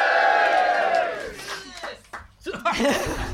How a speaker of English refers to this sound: This is a live pre-recorded phone-in, Skype-in podcast, but also shout-in, because we've got people right in front of us here in the audience. Make yourselves heard.